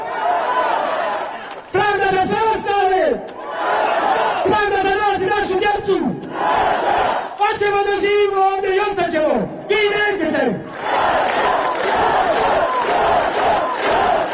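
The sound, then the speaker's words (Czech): A protest crowd of several thousand citizens in Banja Luka, Bosnia and Herzegovina, demanding truth and justice, chants slogans in unison: loud, rhythmic shouted phrases rising in repeated bursts over a constant roar of many voices, with brief lulls of crowd noise between chants. “Više hiljada građana Banja Luki i drugih gradova Bosne i Hercegovine jasno su poručili da se želi istina i pravda”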